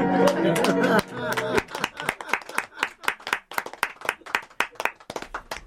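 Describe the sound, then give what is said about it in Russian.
An audience claps sparsely, sharp individual claps in an uneven, loose rhythm that never builds into full applause, following a brief blend of tonal sound and claps at the very start. “Обычно в этом месте хлопают уже.”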